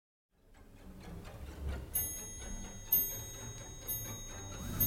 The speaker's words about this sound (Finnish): Tikittävät kellot symboloivat siinä olemassaolon hetkellisyyttä.